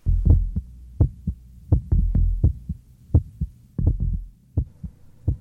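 A heavy heartbeat thumps steadily in paired lub-dub beats, low and resonant over a faint hum, with no voices.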